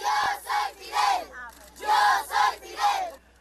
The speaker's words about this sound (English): These children line the streets of Santiago shouting, "Yo soy Fidel," which means, "I am Fidel."